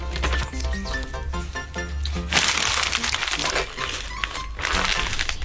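Paper is crumpled up and thrown away in a series of dry, crackling bursts, loud and irregular, following a short stretch of soft tonal music at the start.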